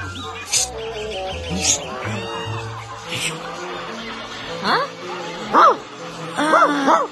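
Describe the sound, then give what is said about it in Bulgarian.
A dog barks several times in short, irregular bursts, while people talk and birds chirp in the background. “Кучето твое ли е?”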